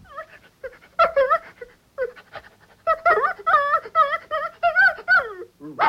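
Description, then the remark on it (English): A vicar in the Yorkshire village of Loftus imitates a dog, producing a run of whiny yelps, whimpers and panting-like yips in quick, uneven bursts, fairly loud, with no ordinary talking. “On occasion, he enlivens a sermon or a Bible meeting with his dog impressions.”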